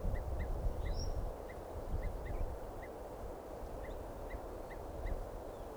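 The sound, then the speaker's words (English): A crossbill chittering among a group of birds: a loose series of short, high chip notes repeated irregularly, fairly faint, over a steady low rumble of outdoor background noise. “That crossbill there, chittering.”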